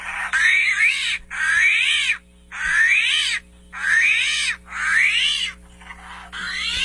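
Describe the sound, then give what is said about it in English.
An armadillo making a series of about six raspy, squealing grunts in a steady rhythm, each burst loud and short, with a faint low hum underneath and no talking. “What creature do you think that is? Armadillo. Congratulations.”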